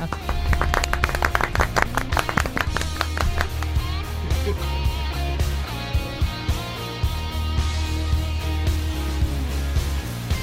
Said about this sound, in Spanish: Muy bien, ahí queda eso. Eso es. Un aplausito.